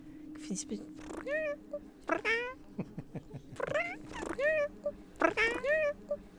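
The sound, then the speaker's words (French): A small female house cat meows four times in a steady series, each call a clear, drawn-out mew with a wavering pitch, over a faint constant hum in the background. “Et elle a une façon de miauler qui est juste irrésistible, quoi.”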